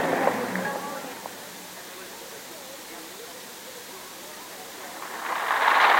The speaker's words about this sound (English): you need to speak up or I won't be able to hear you about the sound of the rain.